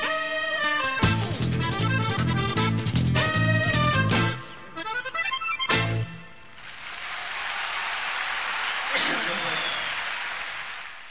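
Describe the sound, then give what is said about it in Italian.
A song with singing and instruments ends on a final chord, then steady audience applause swells up and continues, a dense, even patter of clapping lasting several seconds. “Anche l'applauso ti sei preso, visto?”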